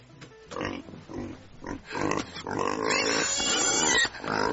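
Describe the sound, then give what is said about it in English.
Pigs oink and grunt in a run of loud, rough bursts, with short pauses at first before the noises crowd together into a nearly continuous, overlapping chorus of snorts and squeals. “No, it was piggies.”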